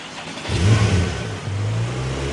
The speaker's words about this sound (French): Ah, ce petit bruit de moteur.